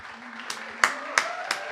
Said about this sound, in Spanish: Todos allá atrás aplauden.